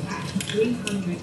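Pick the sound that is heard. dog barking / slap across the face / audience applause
dog barking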